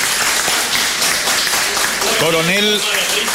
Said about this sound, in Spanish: A partir de ahora es jubilada. A partir de ahora ya tiene su beneficio. El aplauso, sí, claro, para la señora.